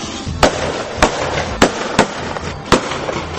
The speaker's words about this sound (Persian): یه فکر دیگه به سرش زد، تفنگشو برداشت و شروع کرد به شلیک هوایی.